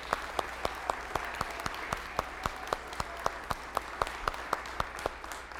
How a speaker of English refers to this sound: Well, well done, boys and girls. Thank you. I think a round of applause here for it. And now the round of applause for their teachers who led them. Thank you.